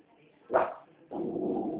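animal, dog growling and barking

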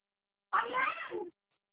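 animal, cat meowing

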